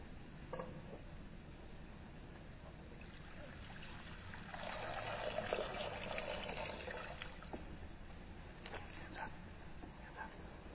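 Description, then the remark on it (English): Water for a baptism pours and trickles softly, swelling into a fuller, steadier splash for a few seconds midway before settling back to a faint dribble, with a muffled voice in the background praying over the water. “Bless by your Holy Spirit, gracious God, this water.”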